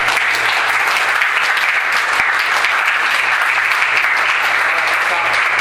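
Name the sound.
audience clapping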